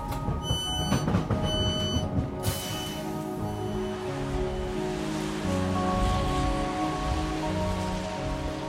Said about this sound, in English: Where it's a short walk, in the rain, down a road lined with semi-detached houses to a small church.